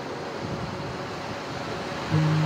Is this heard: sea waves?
yes